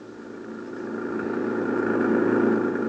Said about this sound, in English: An hour later, Gino Romero and I were heading back toward the city in the government jeep, leaving behind us the wrecked plane, the crushed trees, and the lonely slope on the mountain.